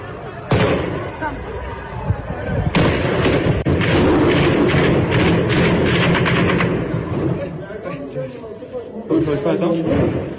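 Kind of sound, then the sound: impact, gunfire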